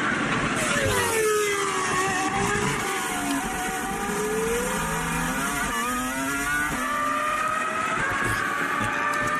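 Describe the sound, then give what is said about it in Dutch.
The V10 engine of a 2004 R24 Formula 1 car, chassis number 07, revs loudly and continuously at a high pitch, its screaming tone rising and falling through several throttle sweeps, with no talking. “R24 met chassis nummer 07 uit 2004. Bijzondere auto, want in deze auto reed hij de laatste drie races van het seizoen.”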